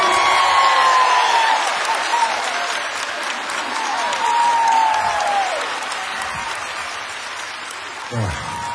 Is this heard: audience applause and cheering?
yes